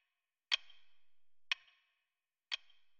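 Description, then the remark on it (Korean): Three sharp, evenly spaced ticks of a clock's second hand, one per second, crisp against silence, each click decaying quickly. “손으로 막아도 손가락 틈으로 들려오는 시계 소리에 귀가 아파왔다.”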